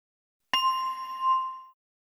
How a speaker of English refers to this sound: Now, from this point on, you have to wait for the sound of the bell before you start drawing, okay?